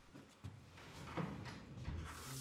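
A hotel room door unlocks and swings open: a sharp metallic click, then a rattle of handle and latch, and a low thud as the door moves, with faint rustling and footsteps after.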